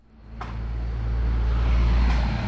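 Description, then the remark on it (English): Heavy diesel dump truck engines rumble steadily, a deep droning roar that swells louder over a couple of seconds with a brief hiss or two on top, on a green space between Marconi Drive and Orleans Avenue next to City Park. “Every American with a diesel-powered dump truck and a front-end loader seems to have landed on the green space between Marconi Drive and Orleans Avenue next to City Park.”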